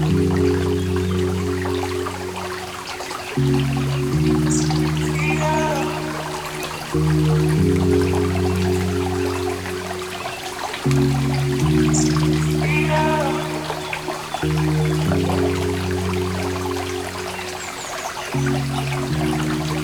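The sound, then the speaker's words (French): A stream babbles and trickles steadily close by, beside a path, its watery hiss continuous throughout, while low sustained humming tones shift underneath and a few faint chirps rise above. “En tout cas, est-ce que la vertu de ce petit coin sonore au bord du chemin, près du ruisseau, vous apaise à défaut de vous guérir.”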